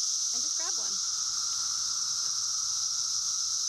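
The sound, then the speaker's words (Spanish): Cicadas buzz outdoors in Gettysburg, Maryland, where they are caught to be dipped in chocolate, in a loud, continuous high-pitched drone that holds steady throughout, with a brief faint voice-like sound near the start. “Pero primero tienes que atrapar las cigarras afuera.”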